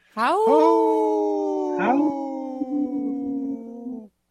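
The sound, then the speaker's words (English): Three human voices imitate a wolf howl together on the Native Roots Radio show, a sustained, slowly falling tone with overlapping harmonics, briefly wavering and rising again midway before holding steady for about four seconds and stopping abruptly. “Wow, that was a good howl. Kind of three-way harmony.”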